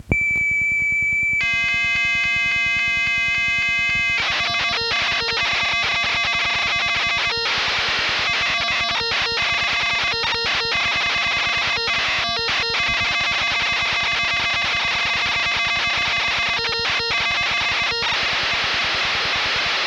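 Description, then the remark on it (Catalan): Harsh electronic data tones from computer programs broadcast over the radio on Ràdio 4, three programs (11, 12 and 13) sent in a row. They screech continuously, a dense stack of steady pitched whistles chopped by rapid warbling shifts and brief dropouts, loud and unbroken for the whole stretch with no voices. “Per tant, quan vulgueu des de control, procedim a l'emissió dels 3 programes seguits, 11, 12 i 13. Que Marconi ens acompanyi i endavant amb els xiulets.”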